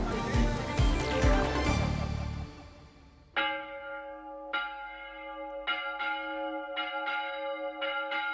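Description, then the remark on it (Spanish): A church bell in the Villa de Palos tolls loudly as a royal provision is read out, ringing five or six measured strikes with long resonant overtones, after a brief burst of dense, jumbled noise at the start. “Pues a toque de campana se lee ya esa real provisión para poner en conocimiento de los paleños lo ordenado por los monarcas.”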